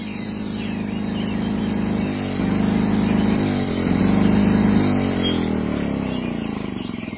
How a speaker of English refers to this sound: Everyone, pardon my noisy lawnmower.